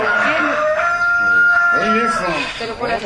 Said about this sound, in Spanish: Oye, un gallo. Un gallo común y corriente. Sí, pero sí. Bonito que cantó. Sí. Un gallo chachalaquero.